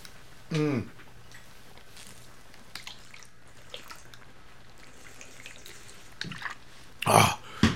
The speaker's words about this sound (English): A throat full of, and now a stomach full of, all of those things. I really dislike swallowing them. You know, I don't like the pills going down my throat.